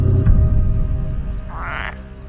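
frog croaking

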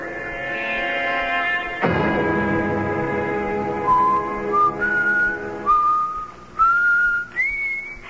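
person whistling a tune

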